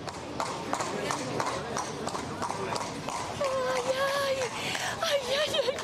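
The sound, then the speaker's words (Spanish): Steady clip-clop of horse hooves from a horse-drawn carriage arriving to pick someone up, a regular rhythmic beat, with voices talking over it and a brief high-pitched tone near the end. “Que Juan Carlos me viene a buscar en coche de caballos, mirad.”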